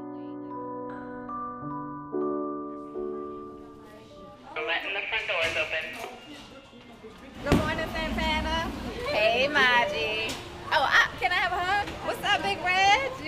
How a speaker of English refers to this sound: Nicole holds open the door as hundreds of kids start to stream in.